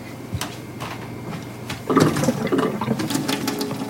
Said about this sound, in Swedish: Så vi måste kolla upp det här med vattnet. Jag testar kranen i köket.